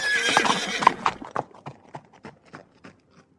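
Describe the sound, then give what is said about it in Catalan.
A horse, brought by someone to a theatre, whinnies loudly for about a second, then hooves clip-clop in a steady, fading rhythm of around ten hard, evenly spaced strikes. “Ja li he dit que aquí no pot venir amb cavall.”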